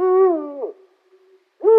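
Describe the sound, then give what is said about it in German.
A Eurasian eagle-owl gives a deep, resonant hoot that slides slightly downward, followed by a pause and the start of a second hoot, fairly loud with no one talking. “Und so klingt der Uhu.”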